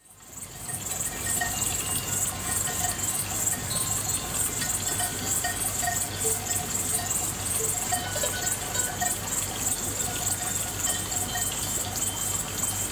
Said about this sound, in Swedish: Det är liksom ljudet av syrsor, alltså orkestersyrsorna då. Mm. Och sen så är det kobjällror. Och ni hör ju, det är liksom sinnessjuka mängder av kossor som är liksom lite längre ner i dalen. Typ kryllar av kossor.